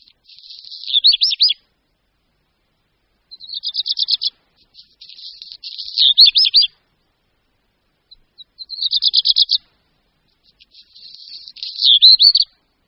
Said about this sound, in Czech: Zpěv Rehka domácího je možné nejlépe vychutnat v mlhavém dni v tichu horských skal, jako například ve Vysokých Tatrách. Můžeme ho však slyšet i uprostřed kamenných středů všech našich měst a nejlépe samozřejmě za ranního ticha po úsvitu.